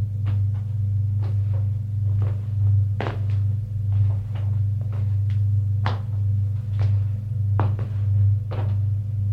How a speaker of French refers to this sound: Frappe à la porte du bureau.